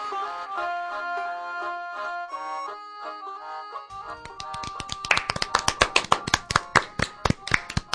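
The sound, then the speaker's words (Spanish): A sustained, harmonic tone plays alone at first, then sharp hand claps break in halfway through, growing louder and quicker into a steady run of distinct claps. “Aplausos, aplausos.”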